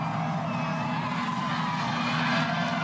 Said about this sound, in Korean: But thank you so much New York City for coming out. Over a million people, plenty more. 음악 소리, 환호 소리, 시민들의 뿔피리 소리가 들리십니까?